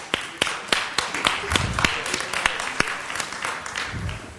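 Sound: audience applause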